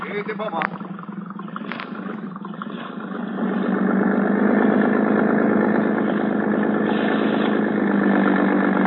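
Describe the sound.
A motorboat engine at a harbor police dock runs with a steady, rumbling drone that swells louder after a few seconds and holds continuous, with muffled voices partly buried beneath it.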